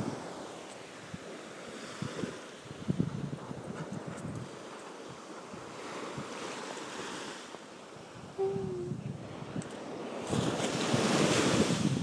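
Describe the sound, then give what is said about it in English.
Ocean waves wash steadily onto a beach, a broad hiss of surf that swells louder toward the end, with gusts of wind buffeting the microphone and no voices. “So I shall leave you in peace with the sound of the waves.”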